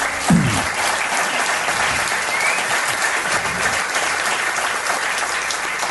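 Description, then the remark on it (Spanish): A crowd applauds steadily for a panel of experts gathered at a table, a dense wash of many hands clapping at an even level for several seconds with no voices on top. “os pido un aplauso para todos ellos que están aquí.”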